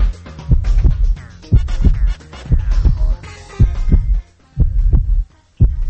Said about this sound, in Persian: اولیش تپش قلبه، یه صدای قلب یک انسان غیر عاشق رو شما گوش کنین ببینین.